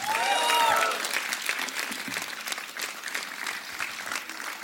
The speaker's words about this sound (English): and yeah, this is my band again. A big round of applause for them again.